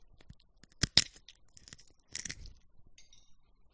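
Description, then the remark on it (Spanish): Sunflower seeds being cracked open and eaten: two sharp, crisp cracks close together, followed by a short burst of crunchy chewing and a few faint clicks, with no talking. “¿Eso es una pipa? ¡Pipas de girasol!”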